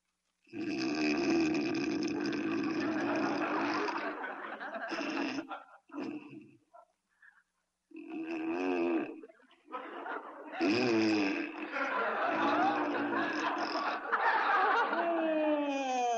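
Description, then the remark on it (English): Loud, exaggerated comic snoring from a man asleep in bed at night, theatrical, with long rasping snorts broken by brief pauses, then a burst of wheezing, whistling sweeps at the end. No one speaks. “there must be something that'll put a stop to that hideous snoring.”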